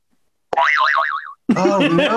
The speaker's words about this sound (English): There's a lot of pressure. Give me the zany whistle. Yeah, here we go.